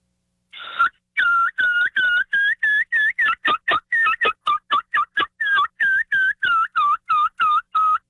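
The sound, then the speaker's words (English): A long, steady run of about two dozen short, high-pitched yelps on a turkey call, imitating a young turkey, each note clipped and evenly spaced with a slight break in pitch, loud and alone. “And you can also add a few yelps in from a young bird, like something like this.”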